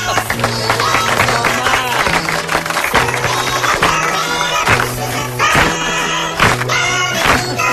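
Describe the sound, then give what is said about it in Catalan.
A loud, bouncy Christmas song sung in squeaky, sped-up chipmunk-style voices over a steady pulsing bass line, playing continuously with no pauses. “De les coses estranyes que aplaudim en aquest programa, eh? Són els esquirols.”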